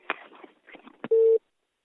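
A single steady telephone ringback tone sounds loud after a second of muffled, indistinct voices, then cuts off into silence.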